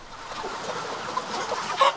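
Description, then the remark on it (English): A dense, continuous din of about 30,000 chickens ready for processing, clucking and squawking together inside a state-of-the-art chicken house on Delmarva, a steady roar of overlapping bird calls with a few louder cries near the end. “This is the sound inside one of Delmarva's state-of-the-art chicken houses with 30,000 birds ready for processing.”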